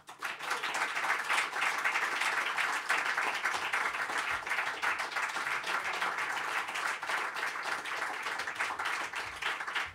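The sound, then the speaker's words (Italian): An audience applauds steadily as a singer and his musicians come onto the stage: dense overlapping claps forming a continuous, fairly loud wash of sound for the full ten seconds with no clear voices. “Come annunciato, sul palco sta salendo … con i suoi musicisti, che io accoglierei con un applauso.”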